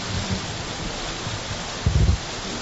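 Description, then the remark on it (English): Steady rain pours down on a building as a dense, even hiss, with a brief low rumble swelling near the end; no voices are heard. “Lord, even as now as we hear the rain falling on this building, oh God, thank You for Your blessings.”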